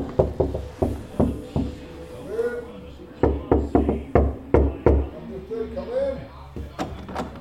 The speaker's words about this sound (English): Room 18 is on an internal corner with no windows. Do you want to knock? I can't see much. It's here. That's the door.